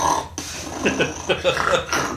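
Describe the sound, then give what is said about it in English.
A person mimics snoring with a few rough, nasal snorting bursts in quick succession, fairly loud, with no actual words spoken. “I'll wait till I go to bed. Be snoring.”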